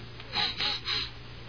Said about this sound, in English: That were me sniffing. That were the breeze.